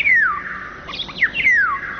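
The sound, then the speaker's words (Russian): Birds singing in a city in the very early morning, with two bright descending whistled phrases and a flurry of chirps between them, over a steady band of car traffic noise. “Птичьи голоса в городах пытаются пробиться к людям сквозь шум автомобилей и бывают слышны здесь совсем ранним утром.”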